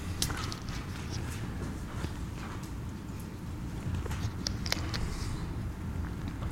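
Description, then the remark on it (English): Many pages of textbooks and Bibles rustle and flip at once as people turn to Luke chapter 7, a soft overlapping crackle punctuated by crisp, brief flicks, all over a steady low rumble of background noise with no talking. “Love to hear those pages rustling.”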